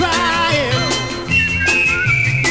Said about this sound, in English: Well, I'm a whistling to keep from crying. I'm a whistling to keep from crying.